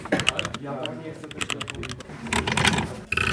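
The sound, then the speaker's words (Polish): Rapid, uneven clicking of keys on a computer keyboard, fairly loud, with a brief pause before a final burst of typing, while a faint voice murmurs underneath. “Działa, klawiatura mi się też wzięła.”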